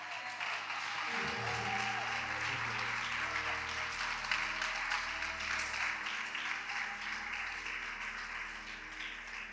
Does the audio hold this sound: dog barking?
no